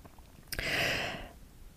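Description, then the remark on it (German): A single airy breath, part of a connected breathing exercise, drawn steadily for under a second and then fading, with quiet before and after. No voices are present. “Zwischen jedem Atemzug und in dem verbundenen Atmen atmen wir eben ein. Wir atmen aus, wir atmen ein, wir atmen aus.”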